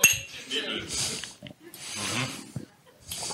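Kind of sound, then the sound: household object, glasses clinking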